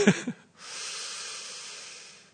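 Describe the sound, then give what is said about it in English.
A voice acts out a breath: a quick sniffing intake, then a long, steady, airy exhale that fades gently away. It's fairly quiet, with no speech. “And as he does so, as he breathes in and out, over periods of kala time, beyond so long that we can barely we cannot comprehend, actually.”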